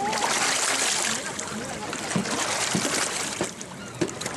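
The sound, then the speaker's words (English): Women beat their clothes clean in the mocha-colored water of the Irrawaddy River: steady splashing and sloshing, with four or five wet slaps at irregular intervals, over faint indistinct voices. “A few years ago, the generals approved a massive Chinese-financed dam near the headwaters of the Irrawaddy River, just upstream from where these women use the mocha-colored water to beat their clothes clean, brush their teeth, and bathe.”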